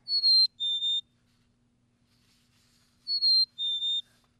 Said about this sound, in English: I wanted to hear a chickadee. Have we got any chickadee sounds in there? I think we got a black cap.